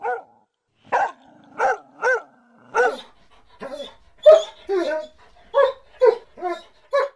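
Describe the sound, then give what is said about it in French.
A dog barks about ten times in quick, uneven bursts, loud, with short gaps between some of the barks and no talking. “Si j'étais un animal, je serais un chien.”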